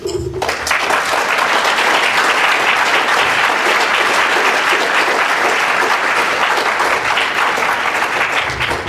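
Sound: audience clapping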